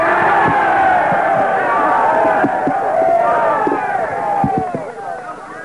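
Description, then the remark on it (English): A loud crowd gives three cheers for the white race as a Klansman speaker is introduced, many overlapping voices rising and falling in pitch, sustained for several seconds before easing slightly at the end. “Three cheers for the white race.”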